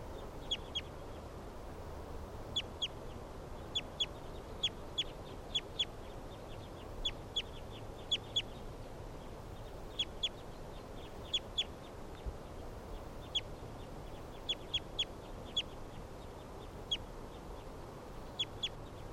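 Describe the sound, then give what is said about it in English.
Several captive birds give repeated sharp, high calls in short bursts, answering one another throughout, responding to a recording of bird 329, over a steady background hiss, with no talking. “With a lot of the other captives responding here.”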